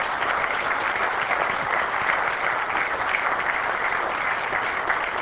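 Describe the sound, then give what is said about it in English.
An audience applauds the speakers in thanks for their effort, steadily for several seconds, a dense, even wash of clapping with no clear individual claps standing out and no voices over it. “Okay, so I think we are out of time for real now, and so I think it would be worthwhile to give all of the speakers another thank you for their effort.”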